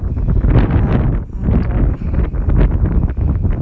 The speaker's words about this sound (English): It's quite windy.